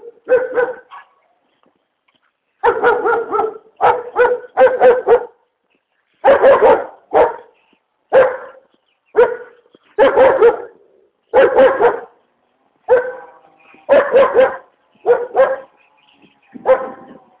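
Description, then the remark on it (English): Dogs bark repeatedly in short bursts and quick doubles, loud, with brief pauses between volleys and no talking. “Oh, dogs. Yes, this is why I go early, because there are dogs.”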